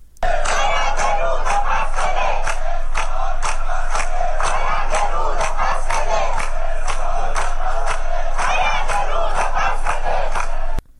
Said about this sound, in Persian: این تظاهرات که تاکنون با حمایت گسترده شهروندان اصفهان روبرو بوده با شعارهایی مانند زاینده رود منکو و زاینده رود جاری حق مسلم ماست برگزار شد.